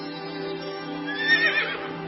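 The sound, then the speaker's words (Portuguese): A horse neighs in a single drawn-out whinny, its voice rising and quavering before fading away. The call is clear, heard on its own without any talking. “E nela vi um anjo do Senhor montado num cavalo vermelho.”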